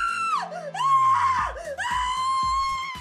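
A woman lets out a loud, high-pitched scream of fright, close up, held for about three seconds with a wavering, sliding pitch and a brief catch midway.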